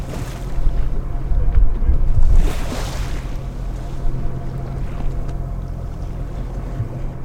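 Fishing boat engines drone steadily on open water as the boats cluster over fishing spots, a low constant hum beneath wind and the wash of waves, with a brief louder surge of rushing water partway through.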